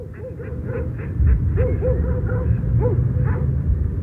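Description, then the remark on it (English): Ducks and other waterfowl, including gulls and swans, call over and over in short, nasal bursts, a steady chatter of overlapping quacks against a constant low outdoor rumble, while a woman on a bridge throws bread out to the ducks. “I think there's a lady on the bridge at the moment throwing bread out to the ducks.”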